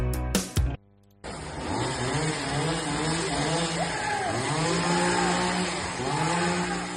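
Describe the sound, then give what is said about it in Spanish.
After a few short bursts and a brief pause, a chainsaw engine roars loudly and continuously for several seconds, its pitch rising and falling as it revs, with agitated voices shouting over it, as one of the grandsons brandishes it threateningly during a violent morning dispute between two families in the Caranza neighbourhood. “Este sonido se escuchó en la mañana de ayer en el barrio de Caranza y es que una violenta disputa entre dos familias, cuyas abuelas son hermanas, motivó que uno de los nietos apareciera con una motosierra en tono amenazante”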